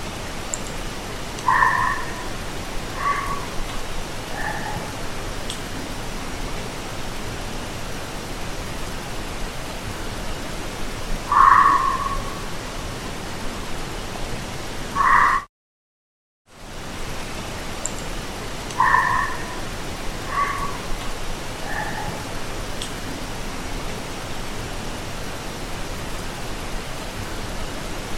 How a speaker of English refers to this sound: So we captured some barks as well, and I think these are likely foxes now that I listen back to them.